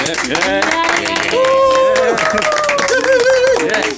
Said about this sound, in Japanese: 今日はですね、なんと超豪華ゲスト4名の方にお越しいただきました。拍手。